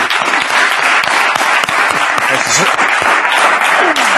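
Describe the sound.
A crowd applauds loudly and steadily for about four seconds, a dense wash of many hands clapping at once, with faint voices mixed into the noise.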